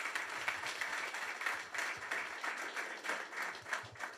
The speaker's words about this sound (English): So can you guys give these guys a round of applause? Let's go.